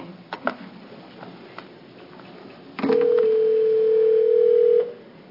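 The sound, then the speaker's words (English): A steady telephone dial tone sounds for about two seconds after a brief click and some faint background clatter, as a phone call is placed to a regional food bank in Southeast Oregon, holding a single even pitch before cutting off cleanly. “and we're going to have two people on the phone, I hope.”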